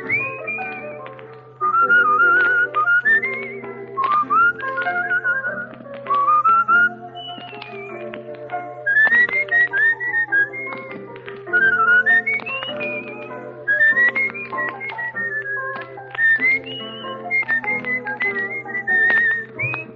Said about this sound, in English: It's time to be whistling along.